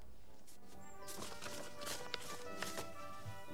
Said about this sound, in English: Hearing a noise at the door, Gromit scampers over and picks up the post that has fallen onto the mat.